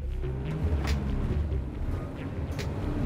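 A van engine rumbles steadily at close range as the vehicle rolls slowly forward, with a few faint clicks and rattles over the low drone and no one speaking.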